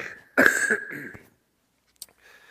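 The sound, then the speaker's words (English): A single rough, throaty cough into the microphone from a person getting over a chest cold and head cold, lasting about a second, followed by silence, a brief click and faint breathy noise. “pardon me, I've been getting over this chest cold and head cold, so if I cough a little in the mic, I am so sorry.”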